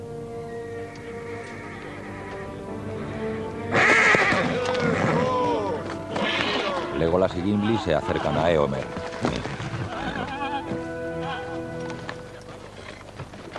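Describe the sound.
Restless horses whinny and neigh, several rising and falling calls clustered mid-way, with faint hoof movement, under a narrator's voice and a sustained musical backdrop.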